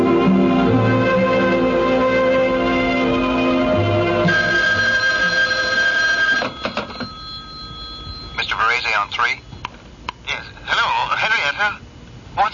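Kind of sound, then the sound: household object, telephone ringing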